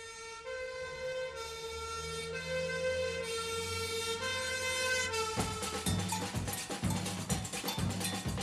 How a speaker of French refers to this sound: En pleine nuit, une sirène appelle au feu tous les pompiers. Et tout Rio qui se réveille voit brûler l'usine de café.